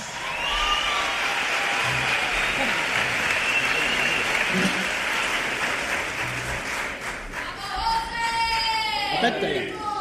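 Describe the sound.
A live audience in the Tacita de Plata applauds loudly and steadily as a Grammy-winning singer is welcomed, a dense wash of clapping that fills the whole stretch, with scattered voices and a child's cry rising near the end.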